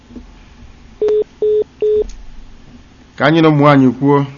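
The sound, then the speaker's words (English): Three short, evenly spaced electronic beeps on a phone line after a call to Radio Biafra drops, over faint line hiss; a voice starts talking shortly after. “There was no more line to speak to them with.”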